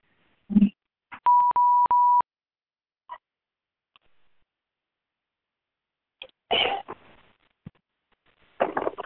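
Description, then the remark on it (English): A short burst of phone-line beeping tones, a steady electronic tone broken by quick clicks and lasting about a second, surrounded by scattered clicks, bumps and rustling handling noises with no talking. “The phone's just me.”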